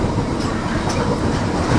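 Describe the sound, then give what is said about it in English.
A very long freight train rolls past, a loud, steady rumble with rattling clickety-clack from the wheels that holds constant throughout, with no voices over it. “Freight train.”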